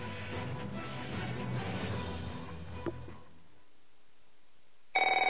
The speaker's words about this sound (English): Don't answer it. If fear strikes your heart when the phone rings, knowing it may be another bill collector,